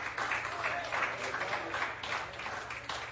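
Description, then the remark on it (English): An audience at an evening service gives God a hand of praise, applauding in steady, dense clapping that holds at an even, fairly loud level for a few seconds, with voices faintly mixed into the applause. “Give Him a hand of praise here tonight.”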